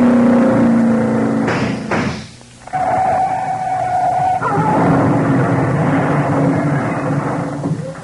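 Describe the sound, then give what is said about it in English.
A loud engine roar ends in a couple of heavy crashing impacts, followed by a steady whine and a long rumbling, tumbling clatter of a car crashing, turning over five times and catching fire as it smashes, with no voices. “Caught fire the minute she smashed. Turned over 5 times, I counted.”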